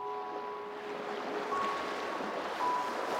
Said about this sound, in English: She had fallen asleep, lulled into a lazy daze by the muggy warmth and the sound of the nearby sea slowly sculpting the beach.